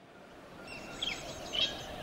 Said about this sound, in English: Listen to the birds.